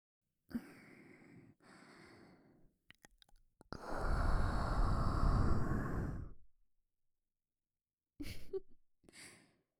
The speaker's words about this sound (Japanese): お耳、すっごく弱々ですね。吐息、くすぐったかったですか？